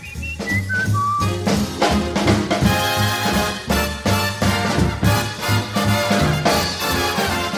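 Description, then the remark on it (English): A man whistles a few bright, birdlike notes that slide downward, and then a full band comes in with loud, rhythmic music that carries on steadily to the end. “Oh, he whistles pretty. Yeah, like a bird.”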